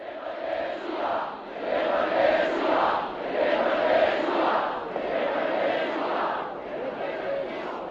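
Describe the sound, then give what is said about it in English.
A large crowd at a demonstration in Letná Park, a few hundred metres east of the cathedral, led by the dissident priest Václav Mali, roars and chants in steady swells, the massed voices rising and falling in loud waves across the whole stretch without a break. “the demonstration in Letná Park, just a few hundred metres to the east of the cathedral, was led by the dissident priest and former Charter 77 spokesman, Václav Mali.”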